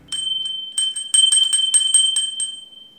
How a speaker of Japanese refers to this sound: そして今日も実はお持ちいただいているんですけれども、クマ鈴、ちょっと音聞いてみましょうか。